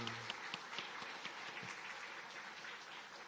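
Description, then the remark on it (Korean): A church audience applauding during a worship service to welcome three newcomer families: a dense, steady patter of many hands clapping for a few seconds, with no voices over it. “예, 박수로 우리 환영하겠습니다.”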